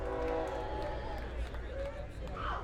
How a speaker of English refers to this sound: There goes that train. Guess what? It's hauling coal.